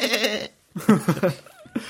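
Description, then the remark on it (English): A person imitates a goat's bleat, loud, with two wavering, nasal bursts and a brief pause between them, then a short thin tone and the start of another. “It just sounds like a goat. I don't know what it is. It's just like...”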